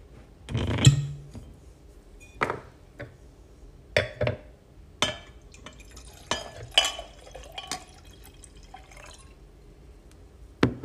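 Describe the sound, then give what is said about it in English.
Pouring a glass of wine: a thump, then irregular glugs, drips and light glassy clinks spread over several seconds, quiet and intermittent, with no one talking. “I'm going to grab a quick glass of wine.”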